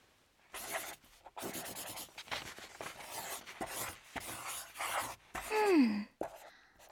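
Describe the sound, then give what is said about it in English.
Pencil or crayon scratching across paper as a picture is drawn, in a series of quick, uneven strokes with brief pauses, followed near the end by a short, falling whine-like tone. “Draw a picture of Africa.”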